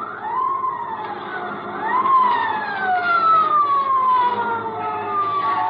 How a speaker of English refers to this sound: And it ain't long before I hear that old familiar sound, a motorcycle siren. Sure enough, a boy in a blue suit pulls alongside and gives me the wigwag with his glove.